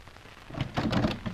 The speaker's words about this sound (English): Right. I'll open the door.